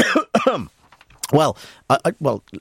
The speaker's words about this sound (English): the reason you're having to hear me cough down a microphone or slightly off microphone is because there's a button in here, okay, in the studio called the cough button.